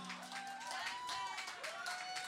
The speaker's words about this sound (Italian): vorrei ringraziare Robix, un bel applauso per lui, il DJ che è stato fino ad adesso.